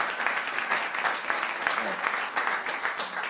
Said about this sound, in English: Wow, let's, like, get a round of applause for that. That's awesome.